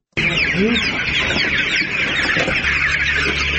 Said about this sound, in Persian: چراغ برق در داخل سالن پرورش مرغ‌ها به هنگام داخل شدن اولین نگاهی بیننده را به خود می‌کشاند. در زیر نور برق صدها مرغ سپید رنگ به چشم می‌خورد که در حرکتند. اینجا اولین فارم زنانه و تازگی در منطقه توتم‌دره ولایت پروان ساخته شده است.